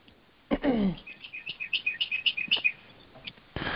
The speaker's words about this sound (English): I could just listen to the birds the whole time.